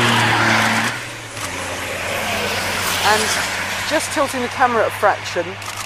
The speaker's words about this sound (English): There was some really close contact with a couple of the trucks sort of side by side.